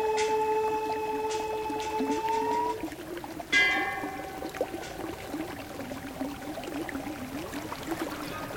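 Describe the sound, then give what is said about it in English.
Steady rushing water from a glacier-fed mountain stream on the east side of the mountain, running down a canyon toward Lake Mansarovar, flows continuously, with clear sustained tones drifting over it and a brief brighter burst partway through. “This stream comes from a glacier on the east side of the mountain.”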